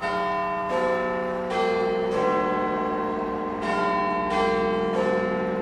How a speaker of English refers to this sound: the bongs of Big Ben will ring out to signal the start of the New Year fireworks. The countdown is underway.